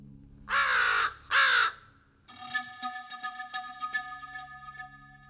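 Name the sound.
crows cawing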